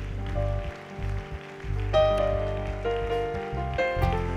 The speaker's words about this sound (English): Let's give the Lord a hand clap of praise for what he's done in the house.